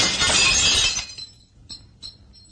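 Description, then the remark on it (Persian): A loud, sharp crash as a glass pane of an entrance door is smashed with the butt of a rifle, followed by a second of bright shards tinkling and a few small pieces dropping afterward. No one speaks. “حاج کاظم در ورودی رو میبنده، نگاهی به بیرون میندازه و با انتهای تفنگ یکی از شیشه های در رو میشکونه.”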